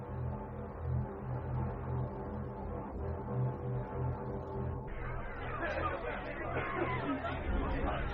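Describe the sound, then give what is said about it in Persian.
A dense crowd of people present at a gathering murmurs and chatters continuously, some voicing opposition and some agreement, many overlapping voices forming a steady hubbub that swells and grows more animated toward the end, with no single voice standing out. “هم همه در میان حاضران در گرفت، برخی مخالف و برخی هم صدا با ابو طالب”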